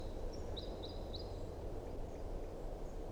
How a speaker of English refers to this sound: Here comes the second bird. Flight song.